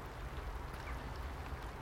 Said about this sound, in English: It's now raining heavily, I'm going to get soaked.